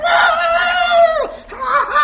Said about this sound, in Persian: در همین موقع مرد روستایی داشت از صحرا به خونش برمیگشت و صدای خروس رو شنید. خیلی تعجب کرد که نزدیک غروب خروس داره میخونه.